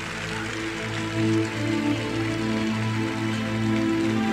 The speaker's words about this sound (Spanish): ¿Cuántos pueden dar un fuerte aplauso a Dios por esto?